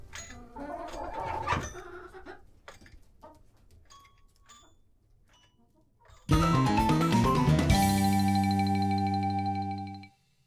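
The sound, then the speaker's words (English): Chickens cluck in short, irregular bursts for several seconds on the cooking show The French Chef, then a loud, sustained musical chord abruptly takes over and rings out before cutting off. “The Chicken Sisters! Miss Broiler, Miss Fryer, Miss Roaster, Miss Capernet, Miss Stewart, and Old Madam Hen.”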